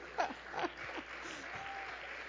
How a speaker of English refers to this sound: We've been married 51 years, which is a long time to be with the same man. And we dated quite a while before that. Yeah, I should get a really big hand of applause for that.